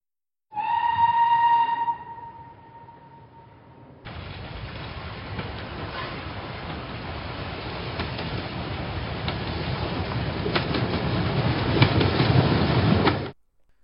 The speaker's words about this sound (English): Clusters of people gather every year to try and catch a glimpse of a misty white train, complete with skeletal soldier guards, as it glides past again and again on its way to Lincoln's final resting place.